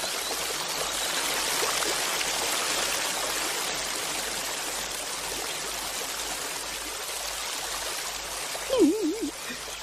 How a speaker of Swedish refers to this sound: Vad tycker man hör? Att det porlar och det rinner.